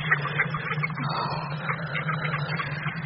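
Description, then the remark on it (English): Several ducks quack at a stream near Oxford in a busy, overlapping chatter that runs without pause, over a steady low hum and a wash of background noise. “I'm dare to go to the stream and Oxford. And the ducks, too.”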